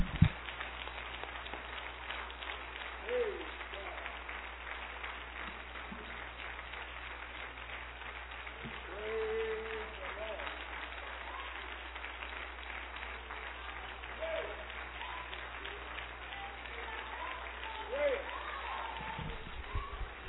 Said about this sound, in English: Now would you clap your hands for the Lord and praise Him.